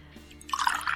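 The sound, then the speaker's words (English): A tequila shot is poured: liquid splashes and trickles into a glass in a short, bright burst that starts partway through and builds to a steady gurgling pour, with no talking. “Let me pour you some.”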